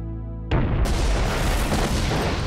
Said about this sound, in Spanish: La explosión destruye la parte trasera del avión. Luego explotó y creó un hoyo en el suelo y toda el área se incineró, formándose una bola de fuego que atravesó la nave.